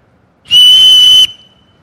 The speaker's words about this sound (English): Blow your whistle. Cry for help.